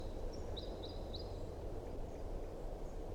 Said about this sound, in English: Here comes the second bird, flight song.